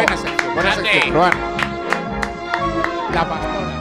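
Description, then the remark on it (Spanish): Audience applause with a steady run of sharp claps, loud and fairly regular, mixed with sustained tonal voices or cheering underneath throughout. “Este aplauso es para ti.”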